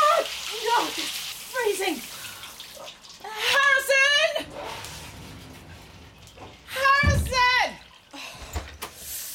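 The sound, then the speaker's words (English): Water runs steadily from a shower or tap as hair is washed, a hiss that continues throughout, broken by a person's voiced exclamations and gasps as the water suddenly goes stone cold. “The water, it just went stone cold. Oh, no. Right in the middle of washing my hair.”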